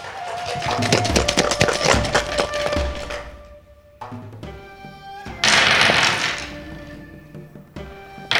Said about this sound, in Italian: Ecco, il maestro si sta concentrando. Tra poco lancerà i suoi dadi. Dadi realizzati dal legno del più vecchio larice del Monte Fuji, appositamente abbattuto.